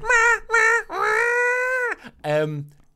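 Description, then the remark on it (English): A voice imitates a blaring phone flash flood warning alarm: two short, high, nasal beeps, then a long sustained tone, ending in a lower, wavering burst. Loud and alone, with no other sounds. “As we get to like 5 minutes from the hotel, our phones start making this ludicrous alarm noise.”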